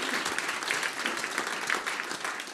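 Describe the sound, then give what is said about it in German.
An audience applauds steadily in thanks to everyone who contributes, a dense wash of many hands clapping at an even level with no voices on top. “Und in diesem Sinne nochmal ein Applaus, vielen, vielen Dank wirklich für jeden, der sich investiert.”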